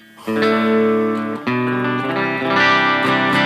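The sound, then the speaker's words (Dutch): An overdriven, fully hollow-body electric guitar with a maple neck plays loud sustained chords, switching to a new chord partway through and ringing thickly with distortion. No one speaks. “Hoe ver ga je op deze gitaar qua overdrive?”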